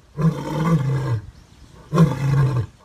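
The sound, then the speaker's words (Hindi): Two deep, powerful lion roars at the lion safari in Etawah, India, each lasting about a second with a brief pause between, loud with a rough, rumbling low-pitched growl. “कुछ दिन पहले ही दो शावक और पैदा हुए हैं, जिससे अधिकारी काफी उत्साहित हैं और उन्हें उम्मीद है कि आने वाले दिनों में लोग लॉयन सफारी देखने के लिए इटावा आएंगे और उन्हें शेरों की दहाड़ भी सुनने को मिलेगी।”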